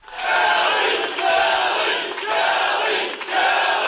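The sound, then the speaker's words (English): A large crowd chants Republican Kelly Ayotte's name in unison during her victory speech after she won the New Hampshire governor's race, loud and sustained, with four rhythmic repetitions rising and falling in a steady cadence over continuous cheering. “The crowd chanted Republican Kelly Ayotte's name during her victory speech last Tuesday.”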